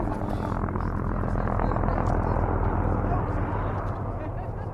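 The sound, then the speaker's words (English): Helicopters drone steadily throughout as pilots chase bands of wild mustangs across the desert floor toward a trap, in heat of at least 90 degrees; a continuous dense rotor buzz with a low throbbing hum that holds at a fairly even level from start to finish. “As the helicopters buzzed into view, dust clouds rose in the distance from the desert floor, a telltale sign that the pilots had found bands of Mustangs and were chasing them to the trap, sometimes more than a 10-mile run.”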